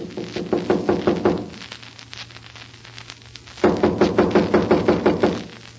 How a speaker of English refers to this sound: Then somebody must be inside. I'll knock and find out.